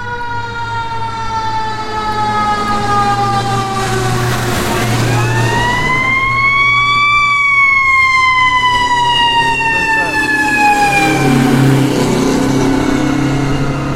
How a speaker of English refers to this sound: Uh-oh, here comes a fire truck. Man, we just passed the firehouse, too.